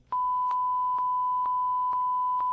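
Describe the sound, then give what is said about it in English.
A loud, steady censor bleep tone covering a cell phone number holds for over two seconds, with faint regular clicks ticking underneath about twice per second. No voices can be heard. “I had to bleep my number because it's my cell phone.”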